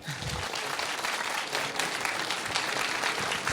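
A crowd applauds steadily, a dense wash of many hands clapping at an even, fairly loud level throughout with no pauses or speech on top.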